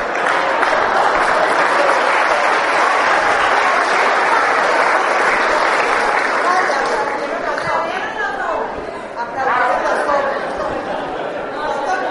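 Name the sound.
audience applause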